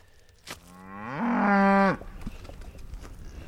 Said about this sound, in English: Yeah, here's the cows that we worked yesterday.